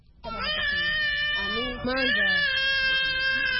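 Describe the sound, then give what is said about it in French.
A hungry refugee baby, held in its mother's arms just after arriving by pirogue from the Democratic Republic of Congo at the beach of Rumonge, Burundi, about 100 km south of Bujumbura, cries loudly in one long continuous wail that wavers in pitch, briefly dips, then swells again and keeps going to the end. “De la plage de Rumonge, à une centaine de kilomètres au sud de Bujumbura, ce bébé dans les bras de sa maman vient d'accoster d'une pirogue qui vient de la République démocratique voisine.”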